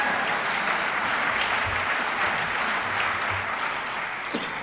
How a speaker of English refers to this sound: You could clap, it's okay.